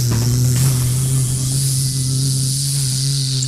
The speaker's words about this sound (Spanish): Quería darle las gracias de esta conversación con un zumbido, ojalá cercano al de la abeja. Juégatela. La abeja nuestra, digamos. A ver. Nativa. Aquí va, la nativa, endémica. Que no es mielera. Escucha.